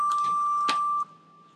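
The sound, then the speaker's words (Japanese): A single steady electronic beep, a pure mid-pitched tone held for about a second before cutting off abruptly into near silence, with a faint click partway through. It is the tone of a phone voice-input mail posting service, signalling the start of a spoken message of up to 30 seconds. “決定ボタンを押し、発信音や振動の後に30秒以内で入力する文章をお話しください。”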